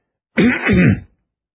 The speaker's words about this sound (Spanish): Carraspeó.